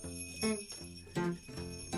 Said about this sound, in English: Ooh, I hear some bells.